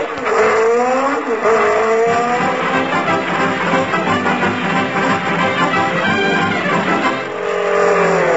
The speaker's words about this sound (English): Hey, Mac, did you see a jeep go past here full of books? Yeah, it did.